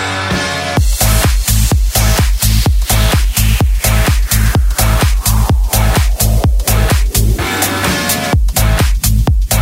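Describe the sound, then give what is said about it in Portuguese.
Loud, bass-heavy remix music blasts from a sound system, a pounding low beat thumping steadily at a quick tempo with dense, distorted layers on top, continuous with no talking. “Sente o som. Sente o pancadão aí, guincheiros do Brasil.”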